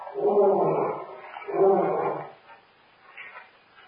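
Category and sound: animal, lion roaring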